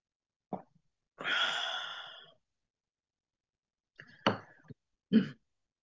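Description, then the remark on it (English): A loud bout of coughing: a sharp burst, then a long raspy breath, followed by a few more harsh coughs after a short pause, with no talking. “Bringing tears to my ears as I cough.”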